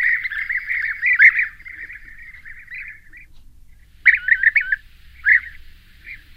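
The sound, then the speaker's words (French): A wild bird calls in a fast, chattering run for about three seconds, pauses, then gives a few sharper bursts, clear over a faint low background rumble. “Alors c'est Calimicole. Ça c'est un oiseau qui n'avait pas sur ma liste, a priori.”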